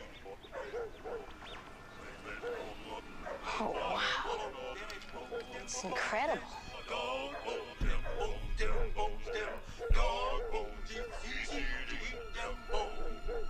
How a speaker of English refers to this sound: How often do you see three dogs just sitting there howling right next to each other?